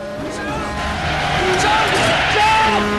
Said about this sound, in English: Despite braking hard, the logging truck smashes through the caravan and slides side on along the highway on a collision course with the stranded plane.